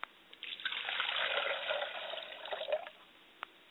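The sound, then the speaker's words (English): Water is poured onto the ground as a libation in a steady splashing stream for about two and a half seconds, then tapers off with a few final drips and a faint tap. No one speaks. “I pour water to the ground so that wherever the water hits, it will become fertile and the word will spring up and grow in someone's heart.”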